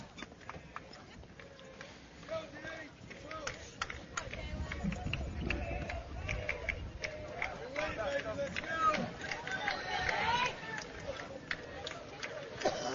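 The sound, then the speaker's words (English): A crowd at a baseball game cheers and claps steadily for a batter, a dense wash of voices and sharp hand claps that swells louder midway and holds at a lively level. “All right, and Jaden's getting some cheers here from the crowd as he gets the one just a hair early and puts it right side, foul down the right side, right down the first base line.”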